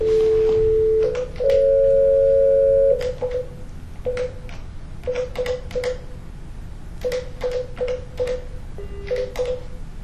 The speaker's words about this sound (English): Okay, I was going to say, we can just call on my cell phone. You got this has speaker. Perfect.